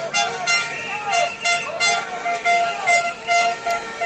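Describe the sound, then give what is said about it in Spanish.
Loud, overlapping honking horns and firecrackers from transport workers protesting on foot from the Oza dock to the Government Delegation, repeated bursts with several tones sounding together, a steady crowd or traffic rumble underneath and voices mixed in. “Se han hecho notar a su paso con pitidos y petardos.”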